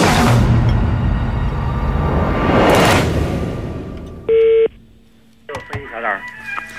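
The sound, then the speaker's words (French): A single short, steady telephone dialing tone sounds loud and clear after a stretch of busy background noise as a phone call is placed from France, and then a voice begins speaking. “Aussi, faut-il procéder par téléphone.”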